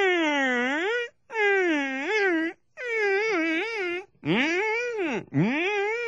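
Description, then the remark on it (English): A person vocally imitates a wailing police siren: about five loud, sustained oo-like swoops that rise and fall in pitch, separated by brief breaths, with no other sounds. “I've never heard a siren. It kind of goes...”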